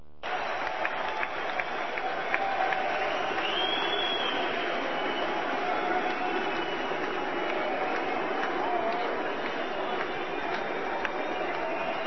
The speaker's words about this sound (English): Crowd sounds demonic, don't it? I think I heard somebody speaking in tongues. Hear them a clapping? That's satanic cyanide clapping's what that is. Oh, you can just hear the devil running around the arena, can't you?